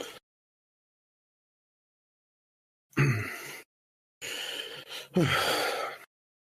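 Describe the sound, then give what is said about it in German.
A man grunts and groans in three breathy bursts after a long silence, the last two longer and strained, with no talking. “Ist wieder ein Gegrunze bei ….”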